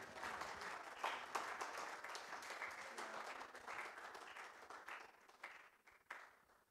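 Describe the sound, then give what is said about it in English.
An audience stands, claps and shouts in praise to Almighty God, clapping steadily for several seconds: a dense, lively burst of many hands with sharp accents, thinning out slightly toward the end. “Where you are, just stand and clap and shout and give praise to Almighty God.”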